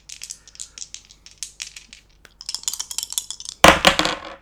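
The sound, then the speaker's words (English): Two dice are rolled: hard little objects rattle and clatter in a rapid series of clicks, then a louder burst of tumbling knocks as they land and skitter across a hard surface, with no talking. The roll totals 12. “I think I'm gonna use 2 dice because if I roll doubles, I could take another turn.”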